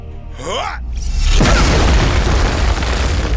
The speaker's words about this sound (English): He smashes a boulder into splintered pebbles.